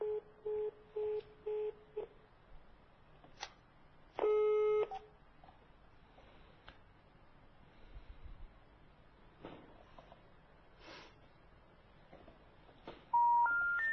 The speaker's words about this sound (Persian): ما مجددا تماس میگیریم ببینیم که آیا تلفن ما رو پاسخ میدن.